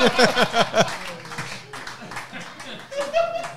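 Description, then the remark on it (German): Bursts of laughter at the start, then a brief patch of scattered hand clapping, followed by a high whistly voiced sound near the end. “Ein Applaus für Dr. Oktopus.”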